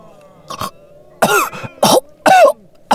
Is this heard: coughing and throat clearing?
yes